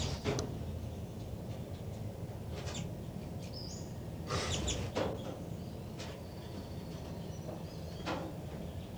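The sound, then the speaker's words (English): Thin, high-pitched peeps from baby birds in a nest come in short scattered bursts, some clustered together, over a steady low background rumble. No one speaks. “Trying to get vocalizations of the baby birds.”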